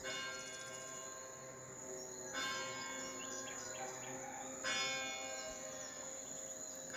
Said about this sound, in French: Une cloche. Un bruit qui résonne, qui nous permet peut-être de prendre conscience de tout cela, d'ancrer en nous toutes ces choses que nous venons de voir.